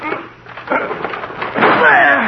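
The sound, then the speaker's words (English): A locked door being forced with two people's shoulders: a couple of heavy thuds and a creaking burst as it gives way, with strained voices grunting through the effort. “Well, we've got to break the door down.”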